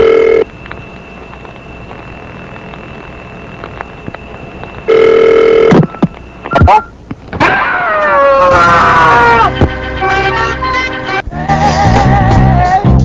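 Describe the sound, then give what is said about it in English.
A phone line hums with a steady tone, then short bursts of keypad dialing tones as a call is placed to a man told not to answer his phone, followed by loud warbling electronic ringing that continues to the end. No one speaks. “So we'll see if he's really followed my instructions about not answering the phone.”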